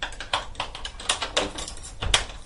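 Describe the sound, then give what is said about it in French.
A door handle being taken apart: a string of irregular metallic clicks, taps and rattles at moderate volume, with brief pauses between bursts and no voices. “Ils ont démonté la poignée.”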